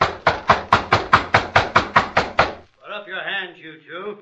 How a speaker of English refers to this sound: Knock again.